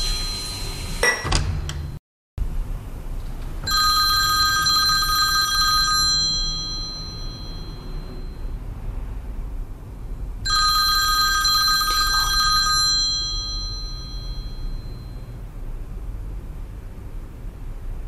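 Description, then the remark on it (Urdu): Mehdi's mobile phone rings in two long, bright electronic bursts with a pause between them, loud over a faint background hiss and no talking. “مہدی کا موبائل ہے، میں لے جاتی ہوں.”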